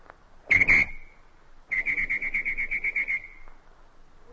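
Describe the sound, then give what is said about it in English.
A voice mimics a shrill traffic whistle using nothing but the mouth: one sharp loud blast, then a longer trilling, warbling whistle that fades out, clear with no talking. “Well, the first one is the imitation of a traffic whistle.”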